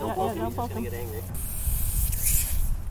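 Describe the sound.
A person speaks briefly, then a wild-caught python used as a training snake for a python-catching class on a front lawn lets out a loud, sustained hiss, a breathy rush of air that continues to the end over low rumbling background noise.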